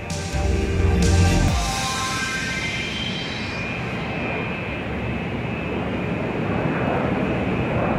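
Loud, steady jet engine roar and whine of a plane with a shamrock on it sitting on the runway in Dublin on a glorious day, with a heavier low rumble surging at the start before settling into a constant drone.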